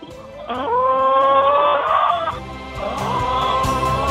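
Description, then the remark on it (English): Chickens kept by suburban homemakers call loudly, with two long, drawn-out cries and a busy barnyard background, and no one speaking. “Suburban homemakers tending to their chickens”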